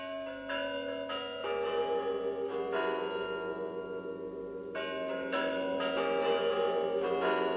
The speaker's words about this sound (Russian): Это Москва. Это на Спасской башне часы звонят. И этот звон перед Новым годом сейчас слушали люди и в городах, и в горах, в степях, в тайге, на Синем море.